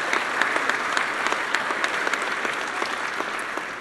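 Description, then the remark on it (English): A steady round of applause from an audience for the women who have stood up, dense overlapping claps forming a continuous bright wash of sound with small sharp spikes throughout, no voices standing out. “You can give them a round of applause as well.”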